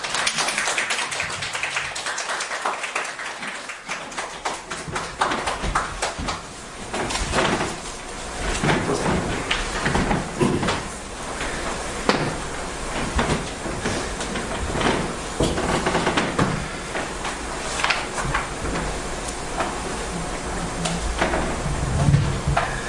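An audience claps steadily for over twenty seconds, a dense, even patter of many hands with no voices, holding a fairly constant level throughout.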